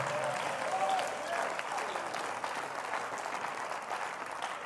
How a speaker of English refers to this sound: Go ahead and clap your hands even though you're not Pentecostal. You say, I don't even have the Holy Ghost. You're liable to get it while you're clapping, so go ahead.